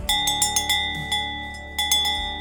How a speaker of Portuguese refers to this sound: Para mim seria uma alegria imensa ter um daqueles sinos pelo som que ele produz. E depois de muito tempo eu consegui realizar esse sonho. Eu consegui comprar um sino de vaca.